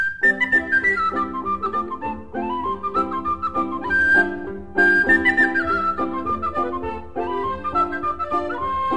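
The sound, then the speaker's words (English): A bright, piping tin whistle carries a lively folk melody with quick ornamented notes, played over a steady strummed accompaniment at moderate loudness, with no voices. “Now, where's me tin whistle?”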